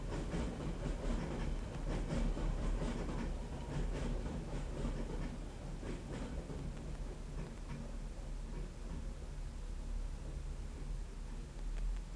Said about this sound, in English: You can hear in the background the sound of London Underground tube train.